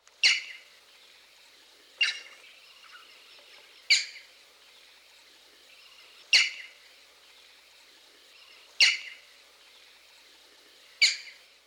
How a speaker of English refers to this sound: Knowing this call, which is commonly given in flight, should alert you to this species' presence. Listen again to the call of the green-backed heron.